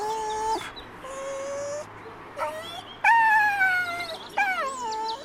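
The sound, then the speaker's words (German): A poodle whines in a run of high, thin, drawn-out cries, several in a row with short pauses, some sliding downward in pitch. Fairly loud, with no talking. “Weint der jetzt? Ja, der möchte so gerne zu der Hündin da vorne.”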